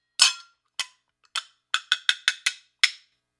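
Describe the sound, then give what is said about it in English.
Small brass chapa cymbals tap and click eight times: a few spaced strikes, then a quick run of five, ending with one more. Each hit is bright and metallic with a brief ring, and there are no voices. “Tapping and clicking sounds.”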